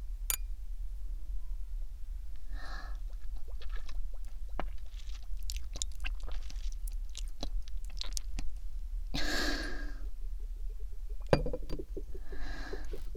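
Glasses clink together in a toast, with a scattering of sharp, bright taps and chimes over a low steady hum, plus a couple of brief rushing, swishing bursts. No one speaks.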